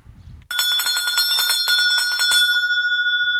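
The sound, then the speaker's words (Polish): A small bell, used as a segment jingle, rings suddenly and loudly, struck in a quick rapid flurry for about two seconds, then left to shimmer and fade with a bright sustained tone. “To bym teraz poprosił o kolejny dzwoneczek.”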